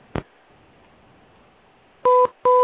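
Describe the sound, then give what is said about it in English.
A soft click, a pause over faint background hiss, then two loud, steady mid-pitched electronic beeps in quick succession, the tone of a call disconnecting. No one speaks. “Oh, there we go. The final beep of goodbye.”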